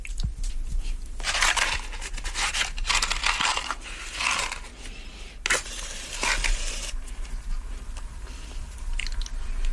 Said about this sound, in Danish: Og så skal den klippes. Hvor lagde jeg nu saksen? Nå, herovre.